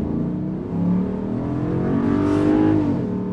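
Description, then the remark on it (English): A truck towing a heavy trailer of about 7,000 pounds accelerates steadily, its low rumble rising in pitch with rich harmonic drone, fairly loud, heavy and continuous throughout with no talking. “It's accelerating with 7,000 pounds behind it, and you don't even know that that it's there.”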